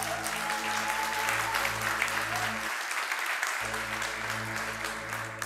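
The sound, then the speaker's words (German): Steady applause from a crowd for the worship team, dense and continuous clapping that holds at an even level throughout, with a faint low hum underneath. “Nochmal ein Applaus für unsere Lobpreisteam, bitte.”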